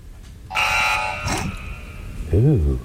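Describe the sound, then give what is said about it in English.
The Super Mario Bros. death jingle: a bright, buzzy chiptune burst of steady electronic tones lasting under a second, then a short tonal blip, followed by a brief vocal exclamation. “That is the death sound from Super Mario Brothers.”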